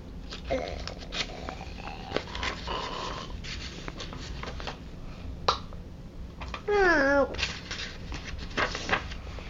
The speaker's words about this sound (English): And the one on top is burping. Where is she? Right here, it says burp.